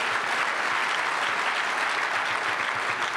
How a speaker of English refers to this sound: Brett Kavanaugh. He's winning on the applause meter.